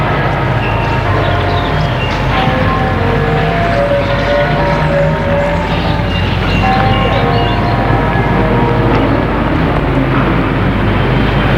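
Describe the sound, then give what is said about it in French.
A bus drives along with a steady, loud engine rumble and droning road noise that holds constant for the whole stretch, with no voices. “Enfin, le bus arrive.”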